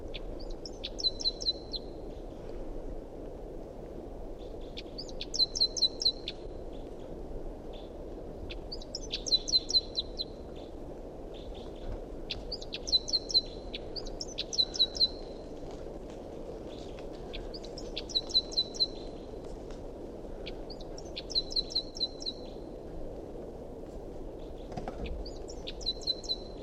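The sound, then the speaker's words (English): A wild bird gives high, bright calls that repeat in short chirping bursts every couple of seconds, each a quick cluster of sharp notes over a steady low rumble of background noise. “Recording a wild bird.”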